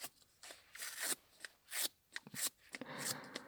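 Sticky tape pressed and peeled off trousers again and again to remove lint, making crackly rips in an uneven rhythm of about eight quick bursts, quiet and with no talking.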